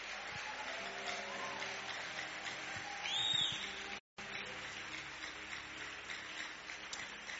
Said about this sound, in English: You can rise on your feet and give the Lord a big hand of praise. Hallelujah. Okay, God bless you. But those of you who are giving the Lord a clap offering, I will expect to hear your clap.